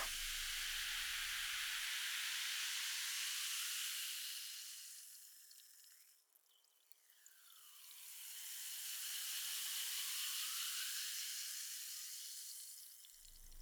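Bubbly fizzing from a carbonated drink poured for a toast, a bright continuous hiss that swells, dips briefly midway, then rises again before fading. Fairly loud, with no voices.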